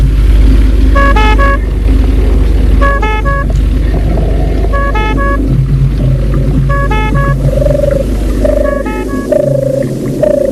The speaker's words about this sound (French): Le portail s'ouvre. Il entre dans la voiture et la voiture entre dans la propriété.